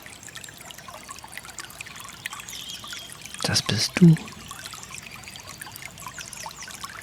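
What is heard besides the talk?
water trickling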